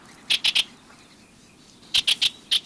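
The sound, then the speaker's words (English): Bewick's wren song: a quick run of three bright, high buzzy notes, a pause of over a second, then four more in a slightly uneven rhythm, with no talking. “With a little planning, your garden can be a haven for birds like this Buick's wren, year-round.”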